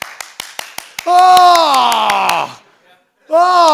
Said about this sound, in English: Oh, did you hear the squawking and squeaking and noise that baby was making?